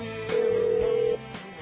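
A single steady electronic telephone tone, like a line ringing on the other end, sounds clearly for just under a second over faint background noise, then stops, as a call is placed to a guest of All Marine Radio.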